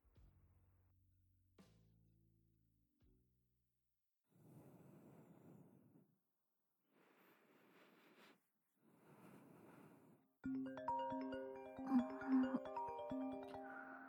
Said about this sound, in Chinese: 宝宝，你电话响了，不是我的，我的昨天晚上静音了。